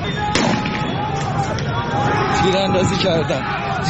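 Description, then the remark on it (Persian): A large crowd gathered in Azadi Square fills the air with dense, continuous babble and overlapping voices, with a sharp bang punctuating the steady roar early on. “بله، صدایی بود که از جمعیتی که در میدان آزادی جمع شده بود و صدای تیراندازی همچنان ظاهرا در تهران و شهرستان‌ها به جمعیت هم افزوده شده.”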